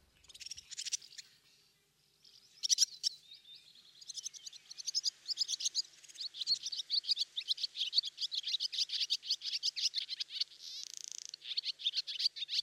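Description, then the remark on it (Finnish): A pair of swallows sing loudly and continuously outdoors in a yard in late spring, their bright, rapid high-pitched phrases overlapping in a busy chorus with only brief pauses. No one speaks. “Kevään lopulla ne tulevat ja tuovat kesän tullessaan. Sama pari samaan pihaan ja esittäytyy kuuluvasti.”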